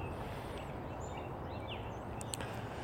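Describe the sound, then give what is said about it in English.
Birds busy in the morning: scattered faint bird chirps and short whistled calls rise over a steady outdoor background hum, with a few sharper tweets near the end, and a woodpecker working its way through trees. “The birds are busy this morning.”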